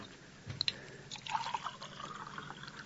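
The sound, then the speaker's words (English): A couple of light glassy clinks, then a short stretch of water poured into a glass to take pills with, fairly quiet, with no talking. “hand me that bottle of pills. My head starts coming off if I get up. Here. And a little water”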